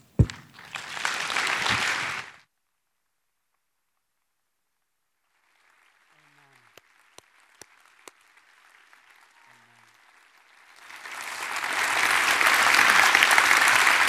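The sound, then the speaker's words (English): A church audience applauding its church plant team breaks into loud, dense clapping, which fades to a near-silent lull with a few scattered claps before a full round of applause swells back up and continues. “If I could interrupt your clapping so that I can invite everyone who is participating in the church plant onto the stage is what we would like to do.”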